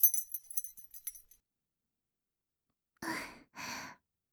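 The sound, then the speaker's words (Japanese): A short bright jingle of a room key being handed over, several light metallic clinks, fading out after about a second; after a pause come two soft, breathy sighs. “こちらが鍵です。”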